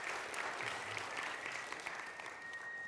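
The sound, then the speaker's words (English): A crowd claps for the team behind the morning's videos, a steady, dense round of applause, loud and sustained throughout, with a thin high whistle-like tone running through the latter half. “Let's just give everybody one last round of applause for all of that.”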